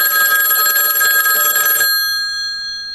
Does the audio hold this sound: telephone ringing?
yes